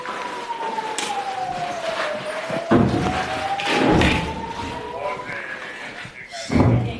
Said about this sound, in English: We hear Israel's air defences intercept the barrage overhead.